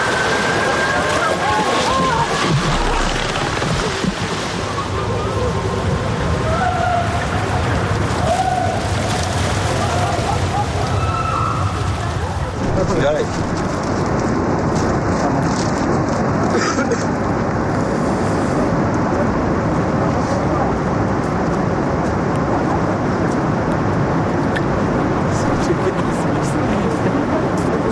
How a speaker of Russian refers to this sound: Вода.